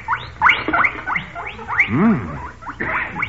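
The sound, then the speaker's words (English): About seven small guinea pigs in a small box on a bench squeak and chirp over one another in quick, overlapping bursts, fairly loud, with a brief lower whining note partway through. “I have a little guinea pig in that small box on the bench.”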